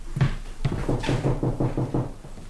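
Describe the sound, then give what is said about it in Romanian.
Knocking on the door of a room at the end of a corridor: two separate raps, then a quick, steady run of about eight closely spaced knocks, fairly loud, with no voices. “Uitați, în camera aceea din capătul coridorului. Bateți în ușă.”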